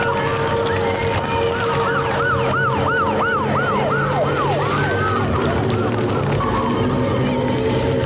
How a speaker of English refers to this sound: Okay, so we've seen the police sirens on the cop car there.